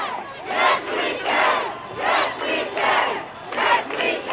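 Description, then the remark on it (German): A crowd of hundreds of thousands celebrating Barack Obama's election victory as US president roars and cheers in repeated swelling waves, many voices shouting together loudly and continuously with no single speaker standing out. “Hunderttausende Menschen feierten den Wahlsieg des demokratischen Senators aus Illinois.”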